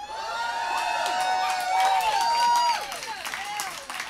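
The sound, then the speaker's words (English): An audience breaks into steady applause mixed with loud cheering and shrill, rising and falling whistles and whoops, sustained for several seconds without letting up. “And I'm sure God appreciates your applause.”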